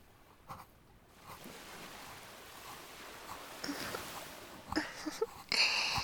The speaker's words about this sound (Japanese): 気持ちいい？波の音。そうそう、こんな感じの音ってなんかまったりと聞いてるだけで幸せになるよね。